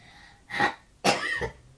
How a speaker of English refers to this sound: you got a bit of a cough? A little bit.